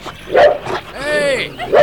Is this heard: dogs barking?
yes